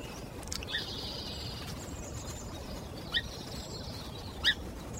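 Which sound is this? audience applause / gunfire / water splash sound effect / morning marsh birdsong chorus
morning marsh birdsong chorus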